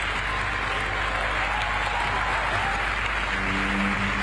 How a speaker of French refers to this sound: Le monde entier applaudit et se lève pour un accord historique.